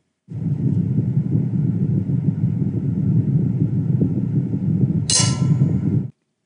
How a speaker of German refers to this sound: Das klang durchaus gefährlich. Aber nein, das war keine explodierende Zelle. Da ist eine Papierklammer in einen Glasbehälter gefallen.